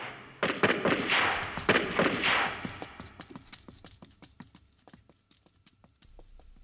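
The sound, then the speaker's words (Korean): A rapid, irregular volley of sharp gunshots cracks out at night in Koreatown, Los Angeles, from an apartment alley across the street, loud and dense at first, then thinning into fainter, more scattered pops with no voices. “한국 관광객 질겁에 간 떨어지는 총소리 따당 따당 따당 따당 따당”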